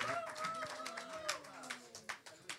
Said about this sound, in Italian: C'è anche Agostino Nascimbeni. C'è anche Boris Maiorano, un applauso anche a lui.